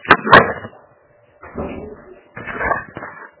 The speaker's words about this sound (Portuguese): Pera, só um pouquinho, deixa eu encostar a porta aqui. Só um pouquinho.